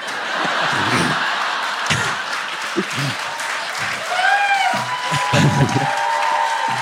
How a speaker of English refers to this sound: Josh Lyman, everybody. It's just Brad getting tepid applause.